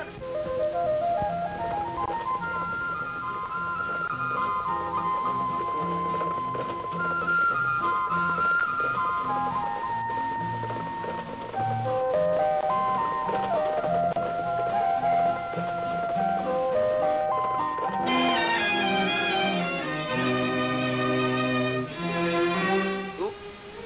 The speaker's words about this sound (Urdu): یہ گانا دوبارہ فرمائش پہ میں پلے بیک اس کو پھر لا رہا ہوں اور مجھے امید ہے کہ جی تمام سامعین کو یہ پسند آئے گا.